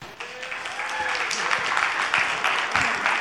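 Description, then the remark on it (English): Audience applause welcoming a guest speaker at a Sunday morning gathering, a steady wash of many hands clapping at once, dense and fairly loud, holding evenly for a few seconds with no voices standing out. “Get clap for and everything.”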